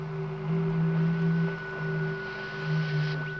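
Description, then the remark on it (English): Steady electronic radio tones, signals received from Venus, drone on alone: a low humming pitch that wavers and swells, with a thin, high sustained whine over a faint hiss of static, and no voices. “There's no reason that Venus shouldn't radiate impulses.”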